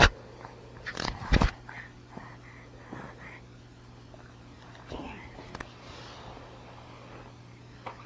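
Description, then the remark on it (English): A pet chews and gnaws on a toy, with a loud cluster of crunchy bites early on, then scattered softer nibbles and rustling over a steady low hum. “Want to chew on that?”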